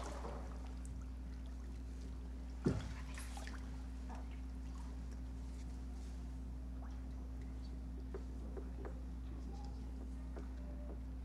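Someone wades slowly into the water of a baptismal pool for a baptism: soft sloshing and small splashes, one sharper splash early on, then quieter intermittent swishes over a steady low electrical hum.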